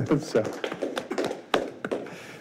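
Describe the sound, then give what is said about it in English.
One person clapping at a meeting after a motion approving three submitted budgets passes: a series of sharp, crisp claps at a slightly uneven pace, with faint murmuring voices underneath. “is clapping if you cannot hear it in the public.”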